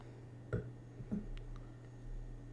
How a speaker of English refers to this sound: It's my wine glass. Taking a sip. Since they can hear that, they probably know there's an ice cube in my wine.